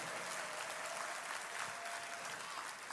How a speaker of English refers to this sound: Clap your hands for just for the reading of the word.